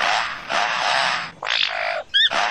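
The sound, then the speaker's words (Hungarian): A lyrebird imitates a chainsaw: a loud, harsh, rasping drone that cuts off, returns in shorter revving bursts, and is broken by a quick rising chirpy trill. “A környezetében hallott minden hangot képes leutánozni. Akár az autóriasztó hangját. Vagy épp a láncfő részét.”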